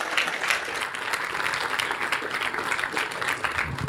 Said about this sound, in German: Und ich würde sagen, großen Applaus und viel Spaß mit dem Vortrag.